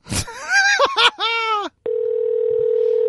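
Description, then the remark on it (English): A few drawn-out, sliding vocal sounds, then a steady telephone dial tone as a phone call is placed to a guest. The tone starts abruptly and holds at an even, fairly loud level until the end. “Let's call our guest.”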